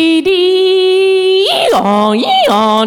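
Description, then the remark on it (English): A voice imitates a 300 baud dial-up modem connecting: a long, steady, buzzy high tone, then rapid warbling pitch jumps that rise and fall in a squealing, whining pattern, loud and sustained. “The sound like a modem.”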